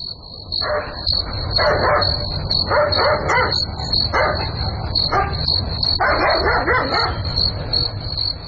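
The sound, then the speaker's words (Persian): A dog barks repeatedly at night in uneven, loud bursts, over a steady low rumble and a constant high-pitched whine in the background. “معلوم نمیشه، نمیفهم که سگ چرا میجفه.”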